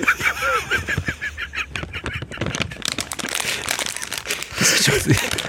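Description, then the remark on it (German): Crinkly rustling of a nut packet being handled, a dense run of sharp plastic crackles continuing throughout, with a voice or laughter briefly audible at the start and again near the end. “Darf ich noch etwas bieten, nämlich das Rascheln von meiner Nusspackung?”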